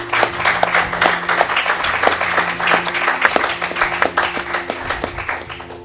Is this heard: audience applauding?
yes